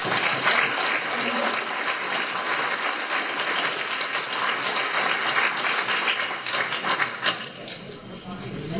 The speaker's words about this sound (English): We give him one more round of applause.